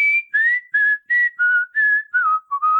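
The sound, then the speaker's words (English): Someone whistles a short tune alone, about eight clear, bright notes in a steady rhythm, the melody gently stepping downward toward the end. “This is turning into a whistling thing.”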